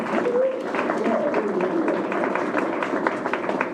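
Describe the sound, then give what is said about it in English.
A crowd claps steadily in a dense, sustained round of applause for the musicians at a place of worship, with faint voices murmuring and a brief higher tone sliding underneath. “If we give them a clap, all our musicians.”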